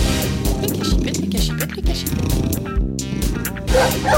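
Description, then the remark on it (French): A female guard dog at a house barks and yips loudly, a dense run of sharp, overlapping calls that keeps going for several seconds with barely a pause. “Ils ont pris une chienne de garde dans cette maison aussi maintenant.”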